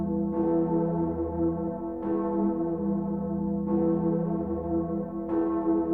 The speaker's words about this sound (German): Oder die Gloriosa in Erfurt, bekannt auch als die Königin der Kirchenglocken.